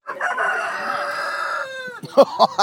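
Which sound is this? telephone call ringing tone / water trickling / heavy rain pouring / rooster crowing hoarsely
rooster crowing hoarsely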